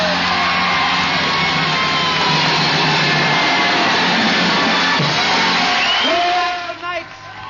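A large audience roars with cheers, whoops and steady applause as performers leave the stage, in a dense, loud wash of sound that holds for several seconds before thinning out near the end.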